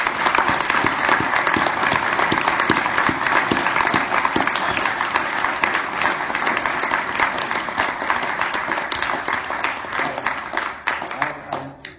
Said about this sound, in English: Amen? Just give him a round of applause.